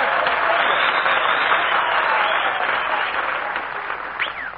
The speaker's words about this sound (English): Well, did you hear that ovation, Mary? Applause, cheers, whistles.